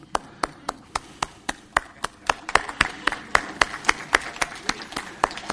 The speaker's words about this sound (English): See, to be an entrepreneur, if you gave a dollar in the offering today, you are a gospel entrepreneur. Give yourself a big hand.